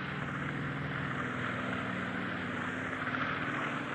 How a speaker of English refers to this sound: Our consul has been refused admittance, and now one is going off. One Army helicopter is taken off. That means that they are now beginning to attack.